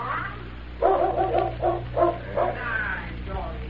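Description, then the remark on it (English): A dog barks several times in a quick, uneven series, moderately loud, over a low steady background hum. “The dog.”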